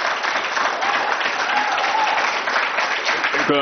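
Sustained applause from the public gallery at a committee meeting, a steady dense patter of many hands clapping throughout, fairly loud and even, with no one speaking over it.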